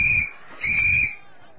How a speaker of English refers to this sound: He blew his whistle again.